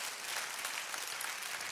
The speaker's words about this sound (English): Give yourself a hand clap for doing a great job.